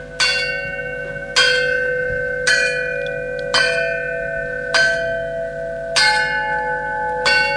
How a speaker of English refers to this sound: gave the elephants some drums, xylophones and harmonicas. They play the instruments themselves.